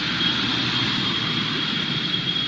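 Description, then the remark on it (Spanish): A steady, unbroken roar of highway traffic on main roads such as the A3 or A4 during the first big summer holiday getaway, as cars pass continuously, with a broad rushing hiss and a faint high whine running throughout; no voices. “Un ir y venir continuo de coches.”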